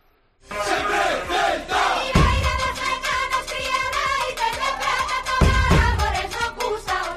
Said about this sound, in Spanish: Y esto que escuchas puede ser o podría ser el himno del centenario del Celta que hoy se presenta.